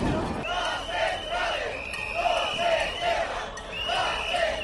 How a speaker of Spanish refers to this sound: Son varios miles de personas las que se concentran a esta hora con un solo grito.